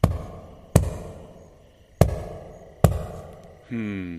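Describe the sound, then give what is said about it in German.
Four loud, heavy knocks on the royal castle door, made by a little baby elephant, spaced unevenly with short ringing decays, followed by a steady droning tone at the very end. “Eines Morgens, König Gregor war gerade aufgestanden und wollte seine Zähne putzen, da klopfte es mächtig laut an der königlichen Schlosshaustür.”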